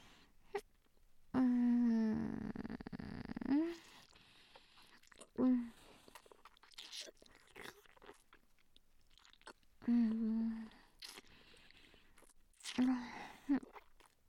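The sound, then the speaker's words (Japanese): Wet mouth noises of a mouthful of saliva, with sticky smacks and chewing clicks, broken by several soft, sustained hummed vocal tones. The sounds come in short bursts separated by quieter gaps. “よだれお口いっぱいですよ。”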